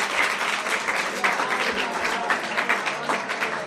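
An audience claps steadily for guests who have come up on stage, a dense rattle of many hands sustained at an even level for the whole few seconds, with no voices standing out.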